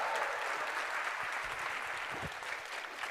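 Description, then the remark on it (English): A crowd claps steadily in dense, even applause, another round given as a person takes a seat, holding at a constant loud level for the whole stretch, with no voices rising above it. “If you'd like to take a seat, another round of applause.”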